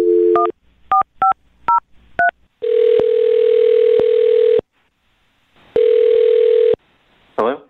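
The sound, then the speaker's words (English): A brief telephone dial tone gives way to a quick run of keypad dialing beeps as a man's phone number is dialed, followed by two long, steady ringing tones with a pause between them, loud, before a voice begins. “I'm going to dial his phone number right now and see if we can find out why he's not calling you back, okay?”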